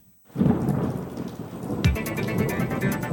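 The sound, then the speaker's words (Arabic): Heavy rain pours steadily during storm Asil in Lebanon, with a low rolling rumble of thunder beneath the dense hiss. The downpour starts abruptly after a brief silence and stays loud throughout. “تأثر لبنان والحوض الشرقي المتوسط بمنخفض جوي عالي الفعلي مصحوب بكتل هوائية باردة وبأمطار غزيرة ورياح قوية وتساقط حبات البرد.”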